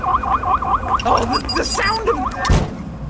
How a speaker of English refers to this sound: The sound of the dratted thing blowing a gasket. Was it meant to do that? Of course it wasn't meant to do that, you dunderpuss. I think that perhaps I might have overloaded the machine with too many obscure commands.